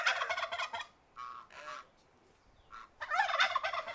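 Several bursts of noisy, harmonic bird calls, like fowl clucking and gobbling, come in fairly loud, with a brief quiet gap in the middle and no talking, as the birds are fed in the garden of the historic Eatonville Yards and Gardens Club.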